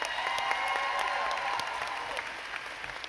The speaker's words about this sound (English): Give my spotter a round of applause. He did a good job.